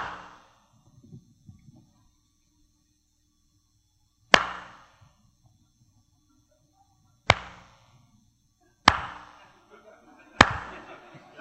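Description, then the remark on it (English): Single sharp hand claps ring out one at a time, each a cue for listeners to swallow, about four or five in all, spaced unevenly a few seconds apart, each loud and crisp with a short fading tail and faint murmurs between. “you cannot force yourself to swallow every time I clap my hands”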